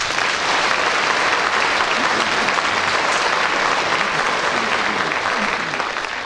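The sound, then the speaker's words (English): An audience applauds Derek Nimmo at the end of a round of a panel game, a dense, even wash of many hands clapping at a fairly loud, constant level with no voices breaking through. “So, Derek Nimmo not only talked about feelings, but he demonstrated them to the applause of the audience and increased his lead at the end of that round.”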